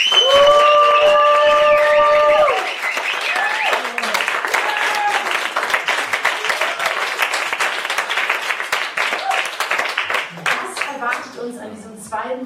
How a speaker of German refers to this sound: Ich freue mich auf jeden Fall, dass ihr so zahlreich hier seid und lasst uns die Person an den Endgeräten zu Hause hören, wie viele wir sind. Macht einen großen Applaus für unseren heutigen Abend.